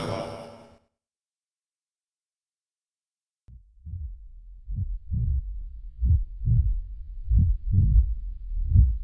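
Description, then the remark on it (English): A single heartbeat thumps steadily and low, one heart beating where the other has stopped, with roughly a dozen beats rising in strength after a brief sound and a pause of silence at the start. “Only one heartbeat.”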